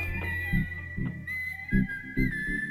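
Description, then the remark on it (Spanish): A human whistle in the Canary Islands whistled language: one steady, piercing tone that slides and bends in pitch, loud, with soft low thumps recurring underneath and no talking. “con el lenguaje silbado tenemos la gran suerte de poder comunicar muchísimas cosas”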